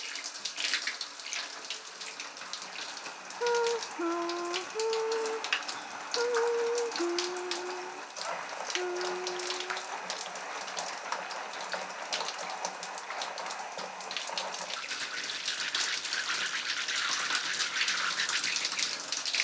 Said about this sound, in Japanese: 頭をシャワーで流すので、目を閉じててくださいね。